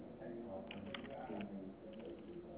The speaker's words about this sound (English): Yeah, I mean, I can hear people in the background. Like, I can hear you typing. I can hear all these, like, people in the background trying to scam other people.